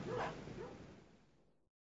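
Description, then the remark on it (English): A person loudly imitates a dog's bark, followed by a lower, drawn-out moaning voice that trails off before stopping abruptly. The barking and moaning are an alarm warning friends that the Charlie Monsters have invaded the ranch. “I'll bark and you moan. Ready? Let her rip!”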